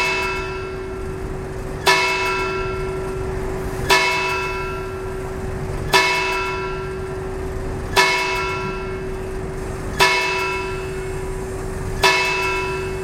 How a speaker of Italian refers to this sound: Ascoltiamo ora un piccolo estratto del suono delle campane e del silenzio che le accompagna.